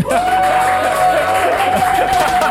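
A live audience in Hamburg, Germany, cheers and whoops loudly and steadily for a few seconds, a dense wall of crowd noise with one sustained high tone running through it.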